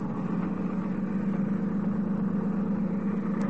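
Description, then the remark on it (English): A boat engine is turned over and rumbles steadily at idle, a constant low, throaty drone that holds even and fairly loud throughout with no voices over it. “Turn over the engine.”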